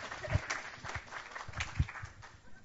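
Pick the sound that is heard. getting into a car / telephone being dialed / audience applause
audience applause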